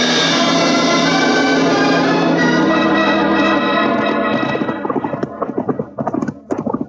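Horses ridden along a trail, their hooves clip-clopping in a loud, steady rhythm that grows sharper and more distinct as a dense sustained tone fades away.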